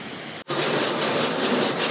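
An automated car wash roars with a loud, steady rush of spraying water and machinery, broken by a split-second gap near the start, then continuing with a faint pulsing churn. No one speaks.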